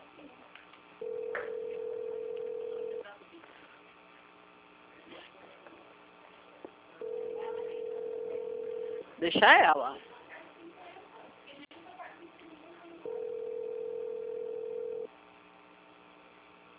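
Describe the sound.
A telephone ringback tone sounds three times, each a steady two-second hum separated by long even pauses, heard over a thin phone line, with a brief voice speaking between the second and third tones.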